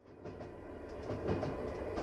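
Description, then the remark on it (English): Train wheels clack over rail joints in a loose, repeating rhythm above a steady low rumble of a moving carriage, heard from inside with no voices. “They're sitting across from one another, each staring out of the train window.”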